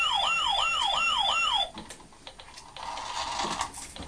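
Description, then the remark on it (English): A loud ambulance siren wails in quick rising-and-falling sweeps for about a second and a half, then cuts off abruptly, leaving scattered clicking and clattering noise. “You missed the ambulance”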